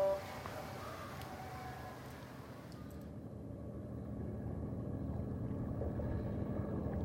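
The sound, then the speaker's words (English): A moored riverboat's engine rumbles steadily in a side tributary of the Yangtze River, a deep, continuous idling drone that grows a little heavier and fuller partway through, with no voices over it. “We're in a little side tributary of the Yangtze where the boat is moored, and any moment now we will be setting off into the main stream of the Yangtze”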